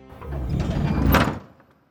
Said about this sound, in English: The door closes.